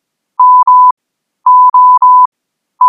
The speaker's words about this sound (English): What did I say about playing with your stupid Morse code machine?